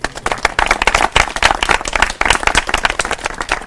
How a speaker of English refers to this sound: Let's give him a round.